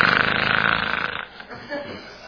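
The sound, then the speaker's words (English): A voice imitates the snoring of a one-year-old child with a loose larynx, with a rough, rasping snore lasting about a second, followed by quieter, breathy snorting sounds. “He snored and he snorted.”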